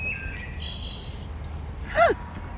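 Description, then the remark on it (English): A wood thrush sings a few thin, flute-like phrases over a steady low rumble, followed by a louder, brief swooping note near the end. “It's a wood thrush.”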